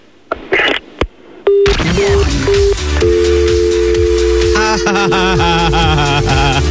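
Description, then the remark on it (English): A couple of sharp clicks as a caller hangs up the phone, then a telephone line tone beeps in short repeated pulses before settling into a steady hum, with busy, noisy sound filling the background. “He put the phone down.”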